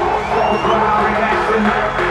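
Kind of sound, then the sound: crowd, crowd cheering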